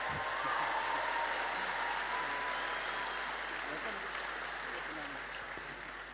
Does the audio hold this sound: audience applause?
yes